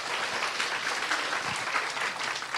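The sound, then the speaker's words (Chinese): A church audience applauds steadily to welcome a man invited to share his testimony, a dense wash of many hands clapping at an even level throughout, with no voices rising above it. “拍手欢迎他来，感谢主。”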